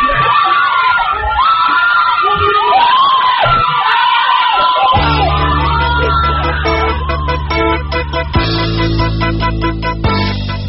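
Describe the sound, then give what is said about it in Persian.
A crowd of protesters screams and yells in rising, wavering cries, continuous and loud, at a street protest on Ashura 88 as a police van runs over a man. About halfway through, a heavy low droning sound, like an engine or horn, joins beneath the shouting. “دنده عوض می کند و از روی مرد می گذرد و فریادها رنگ فوقان می گیرد.”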